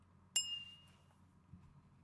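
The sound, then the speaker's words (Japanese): Two glasses clink together once in a toast, a bright chime that rings briefly and fades over a quiet, low background hum. “それじゃ、乾杯しましょうか。”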